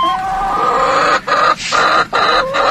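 A hen clucks loudly and agitatedly in a continuous, harsh squawking run, broken by a few brief pauses, dominant with no voices.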